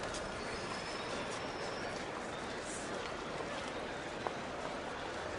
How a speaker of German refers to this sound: Endlich hört sie den Lautsprecher knacken. Bitte Vorsicht auf Gleis 3. Es hat Einfahrt, der verspätete Intercity Express nach Hannover. Der Zug fährt ein.